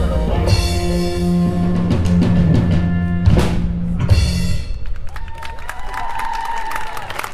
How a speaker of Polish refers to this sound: Wielkie brawo!